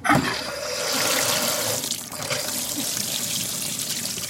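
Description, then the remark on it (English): Filtered water runs steadily from a tap into a container, to be sent for testing, a continuous splashing rush with a faint rising tone as the vessel fills, briefly dipping midway before flowing on. “So the Nichols fill a container their plumbers brought to send their filtered water to be tested again.”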